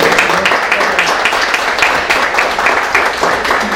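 An audience applauds steadily for a few seconds, a dense, continuous wash of many hands clapping at an even, fairly loud level with no pause.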